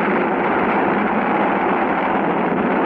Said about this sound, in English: And the Atlas flies into the air, trailing a dagger of flame behind it. You can hear the enormous roar as it reaches us. And high up it goes, straight up into the air.